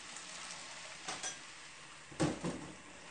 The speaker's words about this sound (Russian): Однажды, к тому времени Мэри исполнилось 8 лет, мама мыла на кухне посуду.